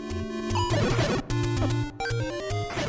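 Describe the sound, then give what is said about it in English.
Retro 8-bit music from the 1980s adventure game Zelda plays loud: buzzy square-wave melody notes hop over a pulsing bass line, with two split-second breaks in the busy chiptune. “For me, back in the 80s, it was the sound of Zelda.”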